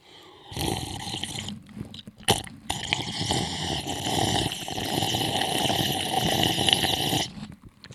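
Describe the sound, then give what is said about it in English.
Someone drinks water with loud, exaggerated gulping and throaty gurgling, a raspy stream of noise lasting about seven seconds with a brief break early on. “I have a little bit of water to clear my voice up.”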